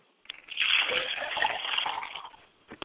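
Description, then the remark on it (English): Water is poured into a glass as a libation for a father's spirit, pouring steadily for about two seconds with a splashing, bubbling rush, then tapering off; a couple of faint clinks or drips follow at the end. “I pour a glass of water for my father's spirit and say, Ashe, Ashe.”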